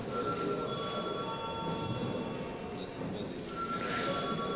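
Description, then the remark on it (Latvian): A parliamentary voting bell, rung as deputies are called to vote on a proposal, rings continuously for several seconds, a steady, loud, buzzing electric clang with a sustained metallic tone and no pauses. “Lūdzu, zvanu.”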